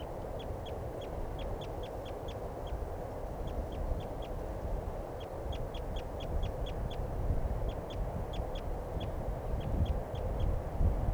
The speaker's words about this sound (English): And the male, I think, is the one that's calling there. But I'm not sure. Both birds calling now.